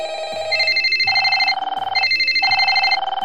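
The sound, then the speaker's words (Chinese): A telephone rings loudly, an electronic warbling tone that repeats in two bursts of shifting pitches with a short gap between them, signalling a call for help. Nobody speaks. “只要巧黄五收到求助电话，正义权就会变身成社区照顾侠，马上出动。”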